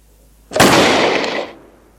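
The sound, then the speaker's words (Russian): A single sharp gunshot cracks loudly indoors, its blast echoing for about a second before fading, as Sherlock Holmes shoots the letters VR into the wall of a rented apartment. No voices accompany it. “И вроде как сценаристы это делали, чтобы мы лучше понимали Холмса сначала, что он готов на то, чтобы выстрелить арендованную помещению.”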